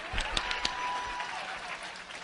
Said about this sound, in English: You might as well clap your hands. Get over it. Come on, clap your hands.